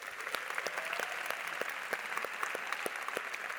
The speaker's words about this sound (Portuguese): Você pode aplaudir a Jesus pela sua igreja?